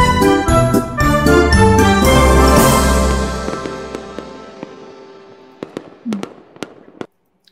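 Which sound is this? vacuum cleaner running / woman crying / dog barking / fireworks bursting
fireworks bursting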